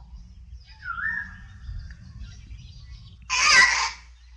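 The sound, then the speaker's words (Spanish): A thin rising whistle gives way to a loud, harsh parrot-like screech, like parakeets and macaws calling, over a low steady background rumble. “Son pericos. Guacamayas.”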